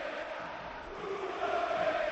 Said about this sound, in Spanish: Junior, vete ya, suena ahora en el Sánchez Pizjuán. Gritos.